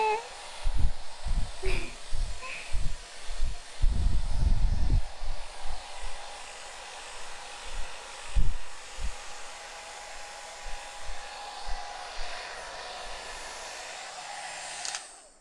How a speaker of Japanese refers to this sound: よし、これでドライヤーはおしまい。ちゃんと乾いてサラサラになったね。